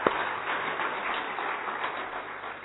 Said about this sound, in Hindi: Okay तो एक बार पुनः आप सभी का जोरदार तालियों के साथ स्वागत है सर.